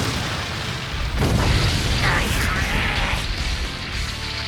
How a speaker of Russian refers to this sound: Огненный взрыв!